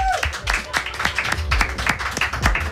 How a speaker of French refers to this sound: Je vous laisse l'applaudir. Une autre personne du public sur le plateau.